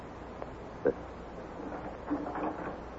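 The door of Squire Skimp's real estate and insurance office opens as Lum enters: a short wooden knock or latch click, then a brief creaking, shuffling rattle as it swings, fairly quiet against a steady hissy background.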